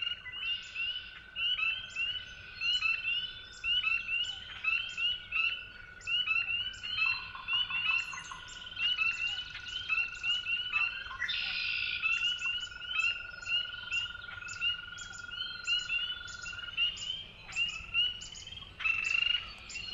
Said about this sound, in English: We're listening to one of Lang Elliott's recordings, Dawn at Willow Pond, recorded at Finger Lakes National Forest in New York. It's a dawn chorus with spring peepers, red-winged blackbirds, northern flickers, and other species.